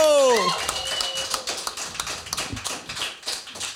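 A brief descending vocal whoop gives way to a steady burst of applause, dense overlapping hand claps crackling on at an even, moderate loudness for several seconds.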